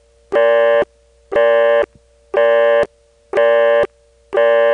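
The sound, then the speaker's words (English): A loud Kenley telephone busy signal pulses in steady on-off bursts, about five buzzy tones at regular intervals, with the subtle ringtone blips at the start and end of each burst enhanced, alone with no voices. “Here's the Kenley busy signal with the ringtone blips enhanced.”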